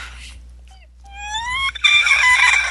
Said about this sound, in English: Oh my God, there's a bird.